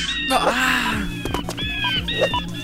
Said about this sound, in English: Yes, there's a bird. Let's make the bird go.